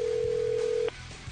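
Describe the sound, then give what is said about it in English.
A steady, clear telephone dial tone hums for just under a second as a call is dialed out to Walnut, California, then cuts off abruptly, leaving a faint low background murmur as the line goes quiet. “What city are we calling?”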